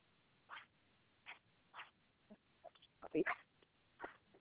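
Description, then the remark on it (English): A puppy in the room lets out a string of short, high yips and whines, about eight brief bursts spaced irregularly, fairly faint and a little muffled as if over a phone line. “Puppy, stop.”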